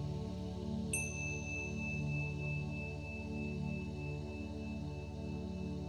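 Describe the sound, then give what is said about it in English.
A single bright meditation chime is struck once, its clear high ring sustaining and slowly fading for several seconds over a steady low hum, sounded in a break between verses of scripture read aloud during a meditation. “In the breaks, you will hear a chime sounded twice.”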